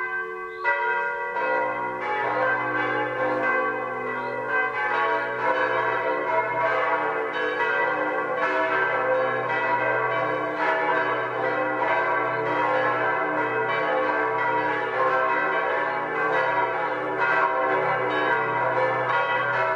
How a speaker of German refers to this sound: Es ist 12 Uhr. Das Mittagsläuten kommt heute aus der oberbayerischen Gemeinde Übersee.